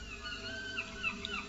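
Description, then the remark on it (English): Seagulls calling at the edge of the English Channel and the Atlantic, a few short, high, wavering cries rising faintly over a steady low background rumble, with no voices. “Ooh, I hear some seagulls.”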